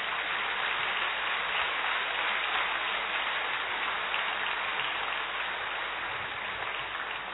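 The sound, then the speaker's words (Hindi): A standing crowd at a Brahma Kumaris gathering claps loudly and steadily to welcome a guest, a dense wash of many hands sustained evenly for several seconds with no voices or breaks. “खड़े होकर स्वागत करें, जोरदार तालियों से।”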